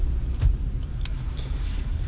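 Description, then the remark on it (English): A car engine rumbles low and steady throughout, a continuous drone with a few faint ticks and rattles on top and no voices. “Sorry, my car.”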